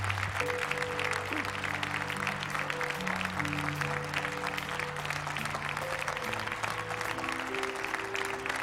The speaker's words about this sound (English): Come on, give them a hand clap. Glory. Hallelujah.